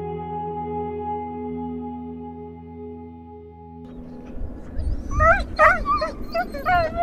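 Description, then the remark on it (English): A steady droning hum fades out, then a pack of sled dogs in Pavernatuck, a community of about 2,000 people in Canada's north, breaks into a chorus of high yips, whimpers and barks, several dogs overlapping and growing louder. “It took me the better part of a day to get to Pavernatuck, home to about 2,000 people and countless sled dogs.”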